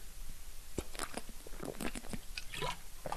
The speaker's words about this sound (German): Ich muss noch einen kurzen Schluck Wasser trinken.